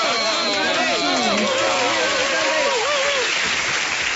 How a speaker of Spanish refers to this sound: Fuerte el aplauso.